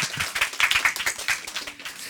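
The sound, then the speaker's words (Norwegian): A short burst of applause: many hands clapping in a dense, steady crackle at moderate loudness, with no voices over it. “som gjerne vil ha applaus igjen.”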